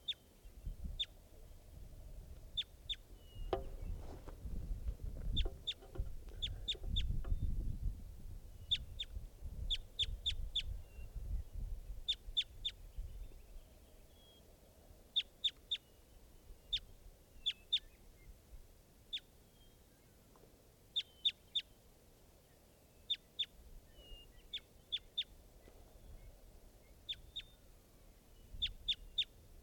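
A foraging bird calls again and again in short, high-pitched bursts, often in quick clusters of two or three notes, over a low rumble that fades after the first few seconds.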